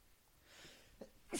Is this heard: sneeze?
yes